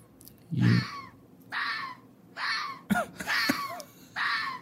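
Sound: fox call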